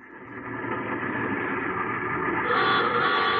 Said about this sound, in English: Then I heard a car pull up behind me and stop.